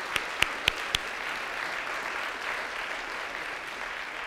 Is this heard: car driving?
no